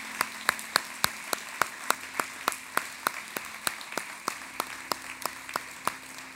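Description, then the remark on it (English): A church audience gives God a big hand clap, clapping hands together in a steady, even rhythm, a little over three sharp claps per second, with no talking and a faint low hum underneath. “Come on, let's clap our hand like he's already performed a miracle for us.”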